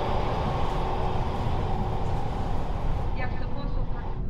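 A subway train ride heard from inside the car: a loud, steady low rumble and rattling roar that stays constant throughout, with some higher squeals near the end.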